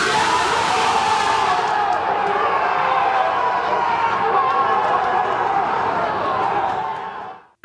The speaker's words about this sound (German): Ja, das war, glaube ich, nicht zu überhören. Ein riesiger Jubelschrei natürlich. Gladbach im Achtelfinale, weil Donetsk gegen Inter 0-0 ausgegangen ist.